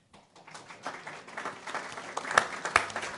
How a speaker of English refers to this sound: So I want to tell you I was there, and applause to all of you for participating in a wonderful, wonderful program.